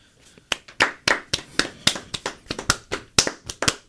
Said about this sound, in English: Please start. Everyone in the studio, clap. That's a lie. Clap, please.